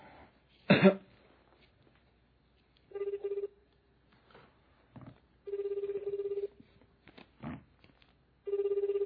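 A phone line rings back three times in steady, evenly spaced buzzing bursts, heard through a handset while waiting for an answer; a sharp cough comes just before, with a few faint rustles between rings.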